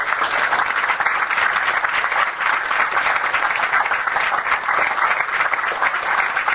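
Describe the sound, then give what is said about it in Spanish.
Steady, dense applause from a crowd, many hands clapping at once in a continuous even wash of sound that holds at a constant loudness for several seconds, with no voices; the applause is for Ana Ceruti, who is in charge of the Plan Caribe. “Quiero reconocer especialmente el trabajo de Ana Ceruti, a cargo del Plan Caribe, para que también pido un aplauso.”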